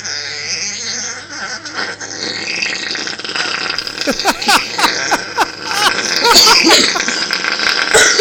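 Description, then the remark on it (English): The person recording gags and retches in a series of short, strained, throaty bursts, coming irregularly in the second half after a stretch of steady background noise. “Whoever's taping this is fucking gagging now.”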